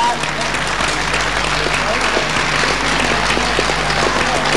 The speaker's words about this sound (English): Getting a big applause here from the crowd in the MCC.